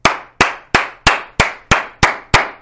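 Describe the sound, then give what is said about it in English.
Clumsy, harsh hand clapping: about eight loud, slappy claps at a steady quick pace, each with a short ringing tail, with no voices. “Come here and clap for the people.”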